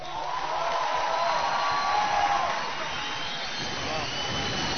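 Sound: audience applause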